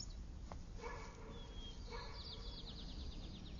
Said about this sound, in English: Wait. There. Between the trees. No. No. Only an owl.